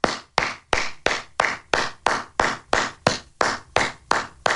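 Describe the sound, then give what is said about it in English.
Slow, steady clapping from what sounds like a single person standing to applaud Matt Gaetz: about a dozen sharp, even claps in a regular rhythm, fairly loud, with no voices. “Just pardon me while I stand and applaud Matt Gaetz, please.”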